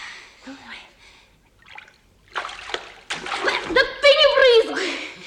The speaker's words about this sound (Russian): Смотри, сколько воды на полу набрызгал.